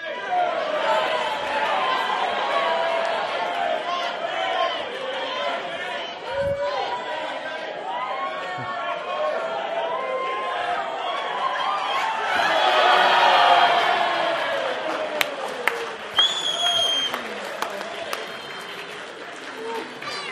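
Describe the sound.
A crowd cheers and shouts continuously during a dressing up game at an all-age service, with excited voices overlapping, swelling louder midway, and scattered sharp claps and whoops rising above the din.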